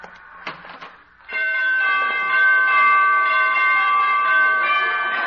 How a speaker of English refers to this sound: She must have borrowed those door chimes from ….